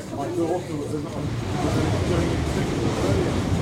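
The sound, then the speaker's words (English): A high-speed French TGV train rushes past in France, a loud, steady roar of wind and rail noise that swells and holds for several seconds. “That was a TGV, a train de grande vitesse.”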